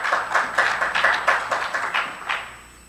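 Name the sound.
a few people clapping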